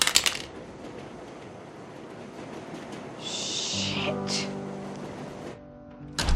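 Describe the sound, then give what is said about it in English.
A sharp, hard clatter of a cell phone slammed onto a sidewalk outside an apartment building, followed by a steady hiss and a humming tonal drone, then a second abrupt impact at the end. “She slams the phone to the sidewalk.”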